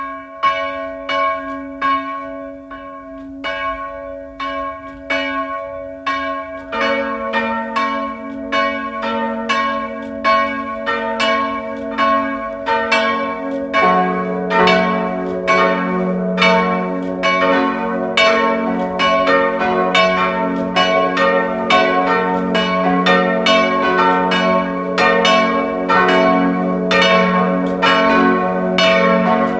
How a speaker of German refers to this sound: Es ist 12 Uhr. Sie hören die Glocken der evangelischen Pfarrkirche von Lutzmannsburg im Burgenland.